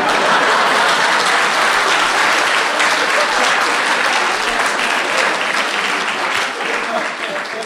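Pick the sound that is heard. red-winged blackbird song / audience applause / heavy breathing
audience applause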